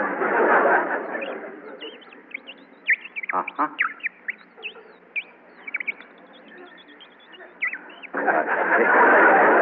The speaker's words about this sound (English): But others of us carry a little whistle called the Audubon Bird Call. Would you like to hear it?